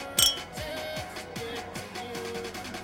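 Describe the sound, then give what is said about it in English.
A single bright clink of glasses touching in a toast, ringing briefly near the start, followed by a low, steady background with soft repeating thumps and no voices. “And to that I say, cheers.”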